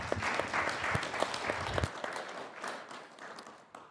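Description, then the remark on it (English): A church crowd applauds its volunteers steadily, a dense patter of many hands clapping at once, fairly quiet overall and easing off slightly toward the end, with no voices heard over it. “Yeah, can we get a round of applause for all of our volunteers?”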